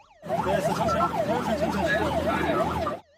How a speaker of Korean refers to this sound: 사이렌 소리가 울리고 구조대원들이 온 힘을 다해 물살을 가릅니다.